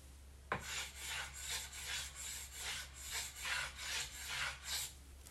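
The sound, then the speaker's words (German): A wooden spoon rubbed back and forth against a shelf to imitate wind lashing against windows: a steady rhythmic series of raspy, hissing strokes, about two per second, starting with a sharp knock and continuing without talk. “Dazu nehme ich einen Kochlöffel und reibe es gegen ein Regal.”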